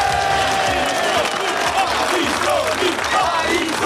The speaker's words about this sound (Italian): Fate un applauso a Spatari.